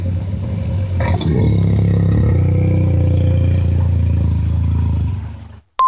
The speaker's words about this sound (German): Ich hab's. Es ist das Brüllen eines Löwen.